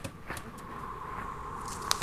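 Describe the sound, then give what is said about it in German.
Soft, scattered rustling and light crackles, like leaves and twigs shifting in a forest, with a faint steady hum and one sharper snap near the end. “Ein letztes Rascheln im Wald.”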